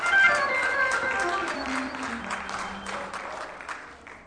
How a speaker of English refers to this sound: Come on and give Jesus a hand clap. Come on and give him some praise. He's worthy to be praised.